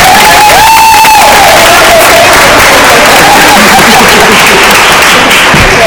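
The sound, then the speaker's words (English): A crowd at a Board of Education meeting breaks into loud, sustained applause with scattered cheers and whoops, the clapping continuing steadily for several seconds. “So okay, let's applaud for that.”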